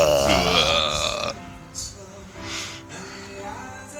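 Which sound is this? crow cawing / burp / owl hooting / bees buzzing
burp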